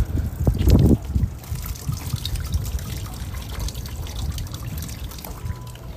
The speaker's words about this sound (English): Just water from a pipe, from a drain.